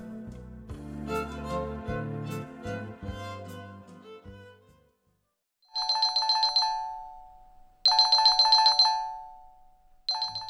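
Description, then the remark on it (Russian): A short musical passage fades out, then a telephone rings loudly in bright, trilling bursts, two full rings separated by pauses and a third starting at the end, with no voices. “Я крепко спал, когда зазвонил телефон.”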